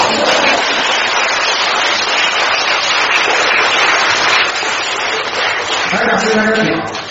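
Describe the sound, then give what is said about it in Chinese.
Sustained audience applause, a dense wash of many hands clapping at a steady loud level for about seven seconds, with a voice breaking through near the end as the clapping fades slightly. “啊，你如果你鼓掌了，再鼓了。”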